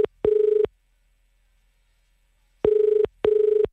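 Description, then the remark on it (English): A telephone rings with an electronic double-ring cadence: a pair of short buzzing pulses, a long pause, then another pair, steady and moderately loud with no voices. “I'm just ringing from the office phone, so that's probably why you didn't realise it was me.”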